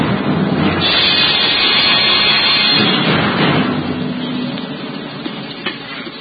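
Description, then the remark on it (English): A raging storm wind roars steadily at night around the rugged battlements of the castle of Cedric, swelling into a stronger rushing gust early on, then easing slightly, with a brief sharp crack near the end. No voices are heard. “Aye, the storm that raged that night around the rugged battlements of the castle of Cedric reflected well the tempestuous temper of the times.”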